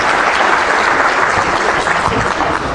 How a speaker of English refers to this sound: Applause.